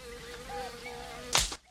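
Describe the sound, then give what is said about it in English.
A fly-like insect buzzes with a steady, slightly wavering drone, then a sudden sharp rush of noise cuts it off as Sweet Chuck catches it in his hands, and everything goes quiet. “Sweet Chuck catches the buzzing creature in his hands.”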